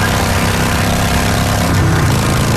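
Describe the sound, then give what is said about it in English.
A loud, steady motorcycle engine roars while being ridden, a constant droning rumble with a wind-like hiss on top and no talking. “I know, and this right? is what that same commercial sounds like on your motorcycle.”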